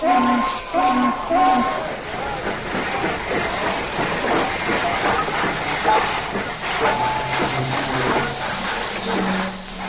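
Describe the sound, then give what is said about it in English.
A mail train from the east pulls into the railroad station of St. Joseph, Missouri, on April 3, 1860, with steady hissing and rumbling, brief tonal whistle-like notes near the start, and an excited crowd murmuring in the background throughout. “The mail is due in on a train from the east.”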